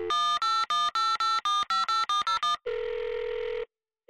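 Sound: telephone keypad dialing tones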